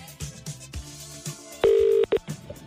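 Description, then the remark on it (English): A quick run of telephone keypad tones, followed by a loud ringing-out tone: one long burst, then a short double pulse, with no voices. “There's a very particular way you must answer the phone, so let's hope for the best and get ringing, okay?”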